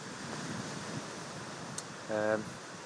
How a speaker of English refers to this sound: So I hope you can hear the waves.